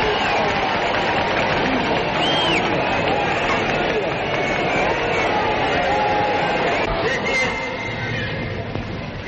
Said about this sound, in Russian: Это ваша победа! Раздаются крики. Нет, ваша!